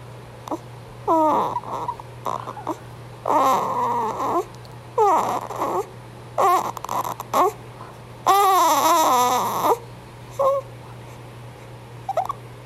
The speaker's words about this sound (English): So we're about 8 hours. About 8 hours postpartum. And I've got a little baby boy who's making all kinds of cute squeaking noises I want you to hear.